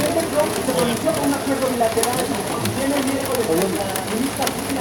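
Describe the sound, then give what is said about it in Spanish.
Heavy rain pours down steadily, a dense hiss with scattered patters and drips throughout, while faint muffled voices murmur underneath. “Ya está lloviendo mucho. Ya no es llovizna, es aguacero.”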